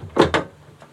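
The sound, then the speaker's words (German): Two quick scraping rustles at a door as a paper note is pushed through a gap from outside, followed by a faint soft tap. No one speaks. “Oh, da ist jemand an der Tür.”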